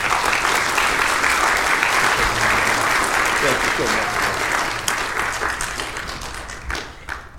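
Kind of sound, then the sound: crowd, audience applauding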